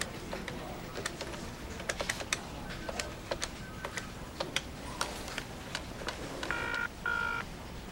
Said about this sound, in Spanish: Sentado en su oficina, Chris coge el teléfono.